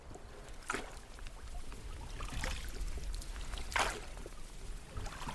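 The trip leader's oars dip and pull through water in a slow, steady rhythm as he rows a raft. Each stroke is a brief splashing swish, about three strokes over a constant low rumble of a river rising with snowmelt.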